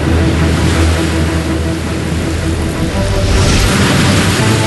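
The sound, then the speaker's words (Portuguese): Ocean waves crash and surge against rocky sea cliffs and the natural rock platform beneath the pillars of the Sea Cliff Bridge, in a steady, loud roar with a deep rumbling wash that swells brighter near the end. No one speaks. “Os pilares ficam sobre a plataforma natural de pedras. Equilíbrio que enfrenta as ondas e leva a gente para passear.”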